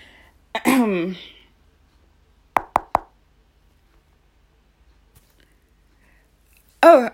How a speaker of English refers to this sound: I don't mean to bother, but my car broke down just around the corner and I've been knocking on doors, but nobody seems to be home.